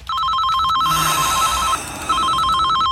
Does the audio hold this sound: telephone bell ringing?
yes